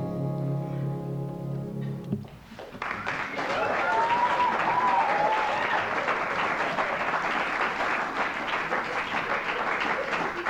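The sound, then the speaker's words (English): Loud, sustained applause from a live audience erupts after a brief musical ending, a dense wash of clapping that continues steadily for several seconds, with a few scattered cheers mixed in. “Lots of loud clapping.”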